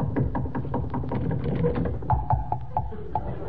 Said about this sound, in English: Oh, there doesn't seem to be anybody about. Well, knock on that door, Mark, manager.